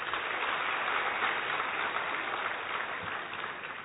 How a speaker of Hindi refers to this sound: एक बार दीदी के लिए तालियां।